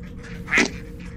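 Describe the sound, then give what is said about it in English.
A single short squeaky quack from an emotional support toy duck, bright and nasal, rising briefly out of a low steady background hum. “we have a cargo bay full of these expensive emotional support farting ducks”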